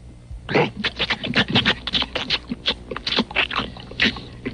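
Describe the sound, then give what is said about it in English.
A dog pants in quick, rhythmic breaths, with scratchy shuffling and rustling as it moves around, steady and fairly loud throughout. “You know, somebody really has to feed that dog.”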